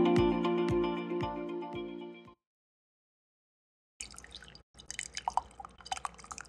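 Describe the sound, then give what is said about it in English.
A short tonal musical passage with steady beats stops, and after a pause comes messy coffee pouring from a carafe, with irregular splashes and drips that briefly cut out. “Worst pouring experience we've ever had.”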